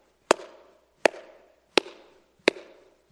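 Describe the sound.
Four sharp, hollow cupped-hand claps at a steady, unhurried pace, each with a low resonant pop and a brief decaying tail, made to call squirrels, with no talking in between.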